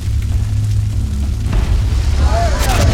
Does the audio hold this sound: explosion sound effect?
yes